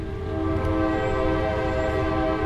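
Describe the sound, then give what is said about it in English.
A train horn blares in a long, steady, unbroken blast over the heavy low rumble of a train passing right through downtown Coshocton, Ohio, loud, with no pause or voices throughout. “The railroad runs right through town.”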